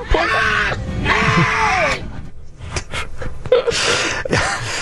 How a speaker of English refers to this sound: I'll never forget this scream.